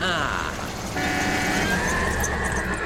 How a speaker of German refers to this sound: Unverschämtheit! Man hupt nicht bei Pferden.